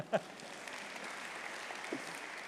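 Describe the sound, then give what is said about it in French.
An audience applauds the speaker's 108-year-old grandmother with a steady, dense crackle of many clapping hands at moderate loudness, sustained for a couple of seconds, with a short voice-like sound near the start and another near the end. “Ma grand-mère, qui a 108 ans, on peut l'applaudir.”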